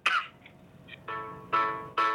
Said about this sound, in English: Hello? I heard someone cough or sneeze.